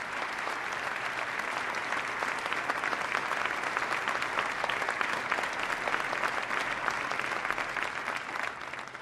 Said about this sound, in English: They did extraordinary work, and I'd ask us to give them a round of applause now and recognize the chairman, who worked very hard.